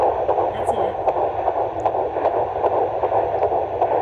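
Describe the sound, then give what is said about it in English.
A fetal heartbeat on an ultrasound doppler, with a rate in the 150s beats per minute: a fast, steady whooshing pulse, about two and a half beats per second, throbbing through a constant hiss of static with no one talking. “So Heartbeat is in the 150s, which is normal.”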